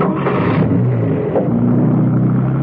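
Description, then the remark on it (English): A car engine is started again and runs loudly and steadily on a narrow, twisty road, its low rumbling drone rising slightly in pitch as it revs toward the end. No one speaks. “Steed muttered an oath under his breath that condemned all window cleaners to perdition, and started the car again, determined to get to grips, this time on his own terms.”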